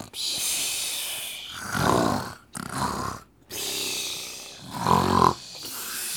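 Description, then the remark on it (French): Loud, rasping snores from sleeping poachers, several long rumbling inhales separated by brief quiet gaps, overlapping in a ragged rhythm. “Au chuchotement des comploteurs succèdent bientôt les ronflements assourdissants des braconniers.”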